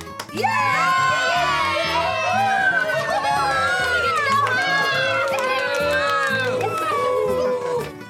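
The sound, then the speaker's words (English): A lively crowd of children and adults shouting and cheering for joy in strong sunlight at being set free, many excited voices overlapping in a loud, continuous din that lasts throughout. “cows, men, women, and children, all blinking their eyes. All blinking their eyes in the strong sunlight and shouting for joy at being free once more.”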